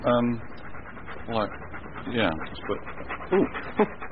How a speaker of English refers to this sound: What's it called? It's a dog.